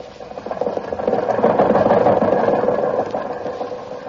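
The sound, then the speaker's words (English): An old jalopy car belonging to Jack, being driven to the junkyard, runs with a steady, rattling rumble that swells slightly in the first second and then holds, sputtering and clattering throughout with no voices. “Why, the motor is in wonderful condition.”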